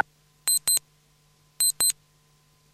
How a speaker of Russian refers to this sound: Сработал будильник, долой одеяло.